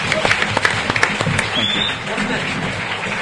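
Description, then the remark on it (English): A crowd at a live presentation applauds people who asked a question, with a burst of sharp, scattered claps at the start that settles into a steady, dense wash of clapping, fairly loud throughout. “So should we give them a round of applause?”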